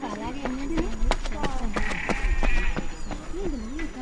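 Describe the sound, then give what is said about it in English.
Goats bleat in wavering, quavering calls, several overlapping, mixed with sharp knocking clops like hooves on hard ground, on the infield of Kamarni Showgrounds stadium in Iten, Kenya, at 8,000 feet elevation. “Goats graze on the infield of Kamarni Showgrounds in Iten, elevation 8,000 feet.”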